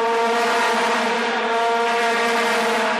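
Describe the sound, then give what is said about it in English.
A loud, unbroken drone of vuvuzela horns, the sound of the 2010 World Cup in South Africa, blares steadily for the whole stretch: a buzzing, reedy mid-pitched tone thick with overtones, with no talking over it. “Ah, the sound of South Africa 2010, still ringing in the ears of those who were there.”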